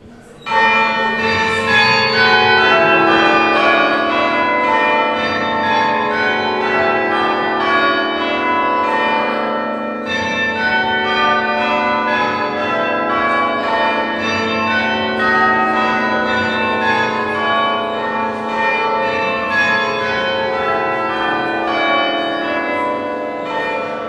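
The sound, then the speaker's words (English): Church bells inscribed with men's names peal continuously for about twenty seconds, a dense overlapping cascade of loud, resonant strikes with no voices present. “helping local people to find out more about some of these men whose names are on the bells, and to tell their stories using poetry and art so more people can know about them.”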